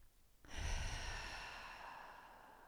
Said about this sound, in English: Maybe three of those, breathing in through your nose and out through your mouth. And one more in through the nose and letting go.